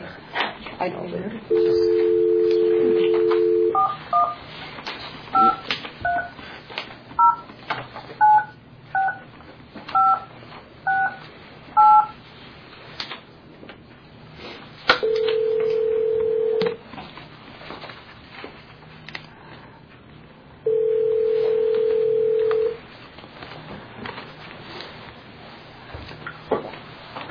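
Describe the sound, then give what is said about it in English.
A steady dial tone, then a quick run of about ten keypad beeps, followed by two long ringing tones spaced several seconds apart, all clear over a faint background, as a telephone is dialed to conference a caller into a commission meeting. “You're getting to be quite the pro on that phone.”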